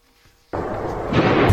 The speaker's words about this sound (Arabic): هكذا أزيز الرصاص يكسر سكون الليل في الضفة الغربية المحتلة بعدما استيقظ سكانها على أصوات إطلاق النار والآليات المتوغلة.